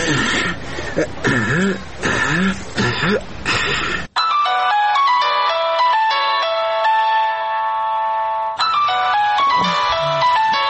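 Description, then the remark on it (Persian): A mobile phone rings with an incoming call, its bright electronic ringtone melody playing steadily for several seconds, clear and fairly loud, following a burst of throat-clearing or coughing sounds and briefly returning to them at the end. “چی شدی که زنگ دروازه رو نمیشنوی؟ تا که مجبور شدم در تلفن برات زنگ بزنم.”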